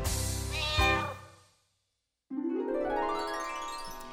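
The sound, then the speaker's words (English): A cat meows twice, fairly loud: a drawn-out meow that fades away, a short silence, then a longer meow that rises in pitch. “Cat goes fiddle-i-fee.”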